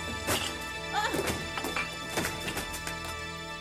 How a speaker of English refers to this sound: Yeah, but I enjoyed Pex, his entrance when they're just... Oh, Pex is cool. When Mel is sat there with the two resis and so he kicks the door in, smashes through the door.